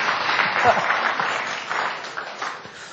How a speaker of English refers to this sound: That's the time where we should be clapping and shouting and thanking God that we are in His presence and enjoying that.